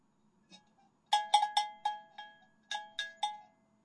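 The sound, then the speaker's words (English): A cowbell is struck about eight times in a quick, uneven rhythm, each bright metallic clank ringing briefly before fading, with a short pause midway. It plays alone, with no talking. “Yeah, you hear what a lame cowbell that was, Scott?”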